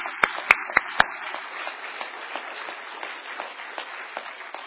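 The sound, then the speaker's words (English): An audience applauds the parents in the evening, opening with four sharp, evenly spaced claps before settling into a steady, dense patter of many hands clapping at moderate loudness. “Let's give the parents a round of applause this evening.”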